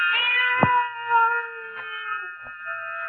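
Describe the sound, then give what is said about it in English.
A cat cries in one long, drawn-out wailing meow that holds steady throughout, with a few soft knocks underneath and no one talking. “Then the silence was broken by the faint crying of one cat. The crying grew louder and louder.”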